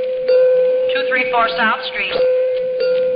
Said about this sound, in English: Uh-oh, 2 bells, that says.